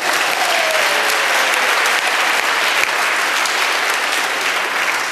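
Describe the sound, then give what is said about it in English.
A crowd claps loudly and steadily, a dense wash of applause that holds at full strength for about five seconds with no voices rising above it. “Give that team a round of applause.”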